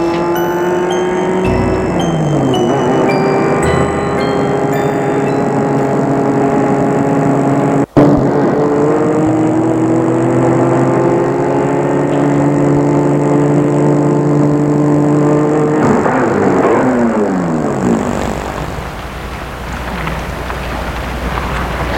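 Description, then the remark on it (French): A car engine hums steadily, its pitch shifting as it drives and changes gear, then slows and winds down as the car pulls to a stop in front of a woman's home, leaving a low idle and wind. “T'es sa voiture devant chez elle.”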